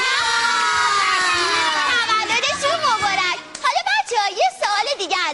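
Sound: children clapping and cheering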